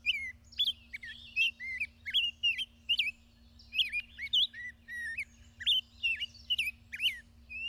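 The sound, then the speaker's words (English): A Nashville warbler, flying to its nest with a caterpillar in its beak, chirps rapidly and repeatedly, a busy run of high, bright tweets and short whistled notes, with a faint low hum underneath and no talking. “Nearly all of North America's smaller birds, from this warbler to chickadees to thrushes, raise their young on insects, especially insect larvae, like this juicy caterpillar.”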